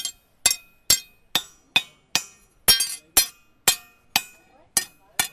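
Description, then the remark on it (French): A blacksmith's forging hammer rings sharply against the anvil, tapped beside the workpiece to keep the rhythm of striking, in a steady rhythm of about a dozen bright metallic strikes with short ringing decays, clear with no talking. “Donc c'est pour ça qu'on vient taper à côté, c'est pour garder le rythme aussi de la frappe.”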